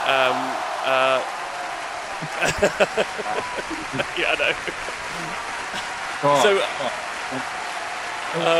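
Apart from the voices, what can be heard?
round of applause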